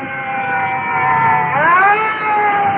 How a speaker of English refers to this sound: And looking over my shoulder, additional fire trucks are pulling up and are coming in directly behind us. Well, I can hear their sirens, so we'll just stand by.